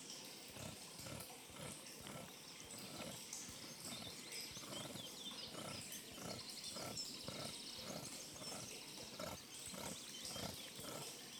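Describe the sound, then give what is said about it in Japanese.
Shavings being scraped off a bar of homemade hot-spring resort soap, to be lathered as a shampoo substitute, a steady run of short, rasping strokes about twice a second, fairly loud, with no voices. “もちろんお体を洗うのにも使えますし、削って泡立てることでシャンプーの代わりにもなるのでございます。”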